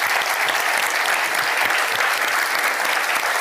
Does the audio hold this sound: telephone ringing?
no